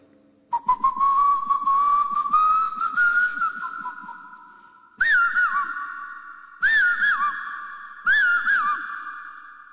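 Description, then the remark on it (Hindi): A person whistles an imitation of a bird's call: one long rising whistle, then three short warbling phrases with quick up-and-down trills, clear and fairly loud, with no talking. “हम अनाज बोने लगते हैं खेती में, तो एक चिड़िया होती है कैसे आवाज करती है?”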